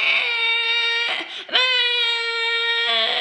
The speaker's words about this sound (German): sondern nur das schreiende Baby auf dem Arm.